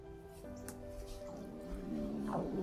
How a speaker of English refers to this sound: Oh, wow, my stomach is growling.